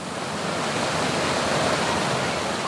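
A steady, dense roar of rushing water fills the scene, constant and fairly loud with no breaks, like a waterfall pouring into a pool, in south central Oklahoma on a hot day of around 100 degrees.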